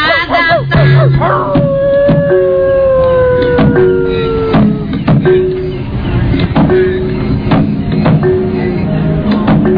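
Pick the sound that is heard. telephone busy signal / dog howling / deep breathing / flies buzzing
dog howling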